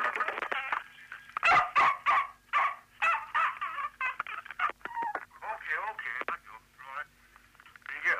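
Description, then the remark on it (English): A dog barks and yelps in a rapid, continuous series of tinny, band-limited vocalizations, as if heard over a telephone line, with short bursts and drawn-out whining tones throughout. “Husky the Wonder Dog, and I hope he doesn't ever have to leave a message.”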